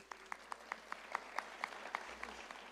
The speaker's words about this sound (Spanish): démosles un fuerte aplauso.